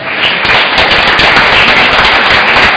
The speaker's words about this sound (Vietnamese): Cảm ơn tất cả các ban ngành đoàn thể trong giáo xứ đã giúp cho cuộc kiệu rất là tốt đẹp và thành công sốt sáng. Chúng ta cùng cảm ơn nhau một tràng vỗ tay.